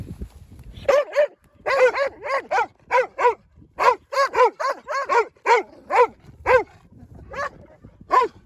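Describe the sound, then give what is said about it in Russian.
A dog barks repeatedly in short, quick, high-pitched yelps, about twenty in a row, mixed with whiny whimpering tones, fairly loud with no talking, as it reacts with discomfort to a device being demonstrated on it. “Видно, что собакам неприятно.”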